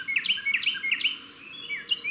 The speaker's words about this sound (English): Springtime, the time of the year when birds create their nesting territories. During this time of year, you often hear the teakettle, teakettle, teakettle of Carolina wrens.